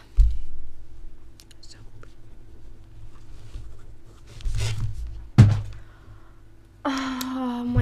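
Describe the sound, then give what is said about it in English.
Soft scratching of a pen on paper in a few short bursts as someone quickly writes a note during a test, with faint breathy sounds between strokes and a voice starting to speak at the end. “Here, I'll just note it down for you quickly.”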